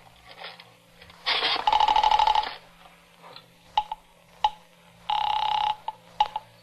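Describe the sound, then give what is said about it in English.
A telephone receiver is lifted with a clatter, followed by a steady dial tone, several sharp clicks of dialing, and another burst of tone, all fairly loud, with no voices. “I reached for the phone.”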